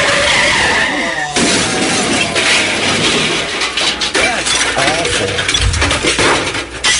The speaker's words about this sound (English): tour bus getting crashed into on I-81 in Pennsylvania. That's awful.